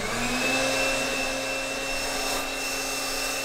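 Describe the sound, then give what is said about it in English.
An electric air mattress inflator, used in place of a regular blow dryer at a blow-drying station to dry pinned specimens, runs steadily. It makes a loud, constant motorized whir with a faint whine, blowing air for the whole stretch without pause and with no one talking. “Now, instead of using a regular blow dryer, like the kind you get from a drugstore, she uses a very specific piece of scientific equipment called an air mattress inflator.”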